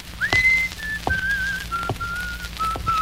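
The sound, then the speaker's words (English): A person whistles a simple melody, sustained clear notes stepping between a few pitches over a few seconds, with faint background noise and occasional soft thumps. “But I just picked myself up and walked down the street. I whistled my magic tune.”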